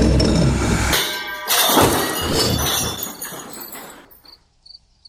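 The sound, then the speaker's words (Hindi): A piece of glass flies fast and smashes against a wall with no one talking: a loud heavy impact at the start, then a burst of shattering as shards scatter across the room, tinkling and trailing off into faint clinks over several seconds. “और फिर सनासन बिजली की तेजी से पूरे बोर्ड पे इधर उधर सरकता हुआ घूमने लगा और आखिरकार तेजी से उड़ता हुआ जाकर के दीवार से टकरा के चकनाचूर होके पूरे कमरे में कांच फैल गया।”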